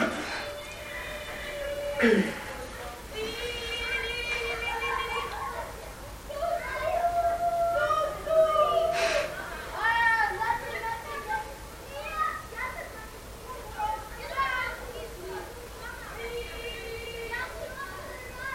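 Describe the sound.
A group of children sings together, their high voices holding sustained, wavering notes in a continuous melody, heard at moderate volume.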